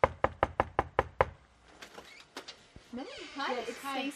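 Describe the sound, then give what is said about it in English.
A Hillary Clinton campaign volunteer in Concord knocks seven quick, evenly spaced, loud knocks on a front door, followed by a faint creak and shuffling before a voice starts speaking. “Campaigns use it to decide who to call and which doors to knock on.”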